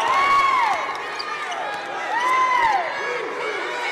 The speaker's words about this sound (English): Yes, it's good for two. Fast break layup by... And the crowd goes crazy for that basket. The freshman.